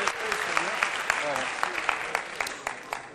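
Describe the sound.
A small crowd applauds with dense, steady clapping and scattered sharper claps, moderately loud, while faint voices murmur underneath.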